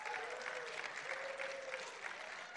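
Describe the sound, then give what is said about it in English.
An audience applauds the student ministry team as they come up to speak, a dense, even patter of many hands clapping that holds for the whole few seconds at a moderate, unchanging level with no talk over it. “Clap, clap, clap.”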